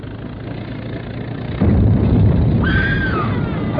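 person screaming

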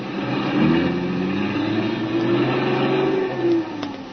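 car driving away

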